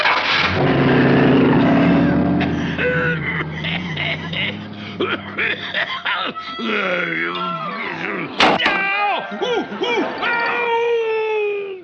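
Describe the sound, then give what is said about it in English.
A brand new imported Rockerari special sports car engine roars to life with a loud, deep rumble, then revs and pulls away, followed by swooping, wailing vocal-like sounds and a sharp bang near the end. “Oh, what a dream car. It's my brand new imported Rockerari special.”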